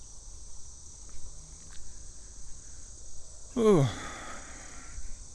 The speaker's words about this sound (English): What was that? Heard a little sound in the grass. Probably a frog or maybe a grasshopper. Some kind of jumping dude.